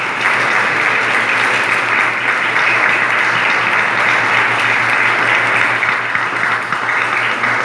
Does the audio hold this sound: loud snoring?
no